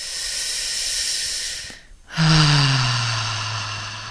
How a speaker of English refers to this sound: And then on the next breath, you want to connect in with your stomach, bringing in the sensation and emotion that's held in that part of your body so that you can feel the connection between your chest and your stomach. So breathing in.